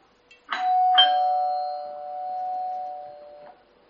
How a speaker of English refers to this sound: What is that? A doorbell. What does it mean? That someone's at your house. That's right. Someone's at your door. Yeah, somebody's at your door.